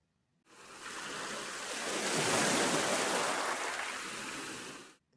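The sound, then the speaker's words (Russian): A single large wave surges in and washes over the shore, its broad hiss swelling to a peak midway and then slowly receding, fairly loud with no voices. “Большая волна выбросила мышку на берег.”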